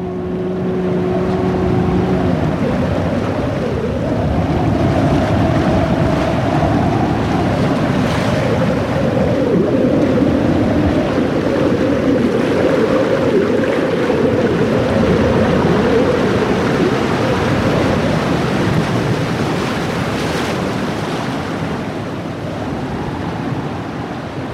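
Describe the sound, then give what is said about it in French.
Steady, loud rush of wind and churning sea from on board a sailing boat, with water surging and hissing against the hull throughout, no voices, and a brief low tonal hum at the start. “Barrer la nuit, c'est pas inintéressant non plus, parce qu'on n'a pas la perception exacte des vagues, de la mer, et mais par contre, on a les mouvements du bateau, le vent, on l'a toujours dans les oreilles.”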